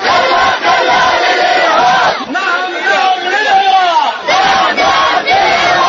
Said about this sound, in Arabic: كانت هذه هتافات أهالي قرية خزن المنكوبة 19 كيلومتر شرق مدينة الموصل خلال تظاهرة سلمية نظموها في قريتهم.